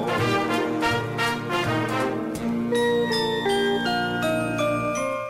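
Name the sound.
bells ringing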